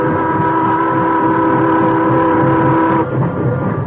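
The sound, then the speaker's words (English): A steam train getting under way, heard as a loud, steady mechanical roar with a sustained whistling tone over it that drops away near the end, without voices. “When the time came, he went aboard with the others, and the train started.”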